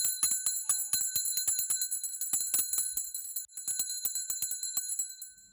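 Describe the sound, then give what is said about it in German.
A small bell is struck rapidly and repeatedly, its bright, clear tone ringing on steadily between strikes for several seconds, with no voices. “Und die Glocke, die hat einen richtig schönen Ton.”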